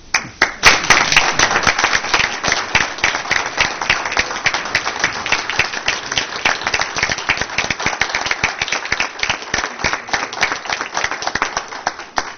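Sustained applause from an audience, dense overlapping hand claps at a steady loud level for about twelve seconds, thinning slightly near the end, with no voices.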